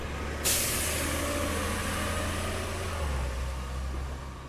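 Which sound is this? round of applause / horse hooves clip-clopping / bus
bus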